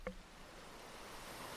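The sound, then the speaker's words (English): A soft, steady hiss of white noise fills the whole clip, broad and even, with a faint brief tonal blip right at the start. “Start with a little white noise,”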